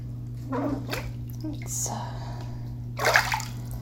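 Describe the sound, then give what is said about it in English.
Water sloshes and splashes in a very deep bathtub filled with very hot water in a few short bursts, with the loudest splash near the end, over a steady low hum. “And I'm in a very deep bathtub.”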